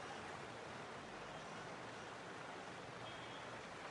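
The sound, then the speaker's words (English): A steady, unbroken rush of floodwater overflowing from a lake and streaming along a main ring road in Bengaluru, India, fairly quiet and even throughout with no voices. “Roads have turned into rivers.”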